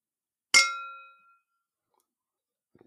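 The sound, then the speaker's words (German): Glasses clink together once in a toast to love, a bright ringing tone that hangs for nearly a second before fading, followed by faint rustling near the end. “Darauf trinken wir. Und? Auf die Liebe. Den Motor. Und Antrieb. Für alles. Prost, ne? Cheers, Ruiz, cheers.”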